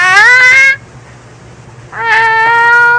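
A cat in heat lets out two loud, drawn-out yowls, one short and one longer after a brief quiet gap, clear with no talking.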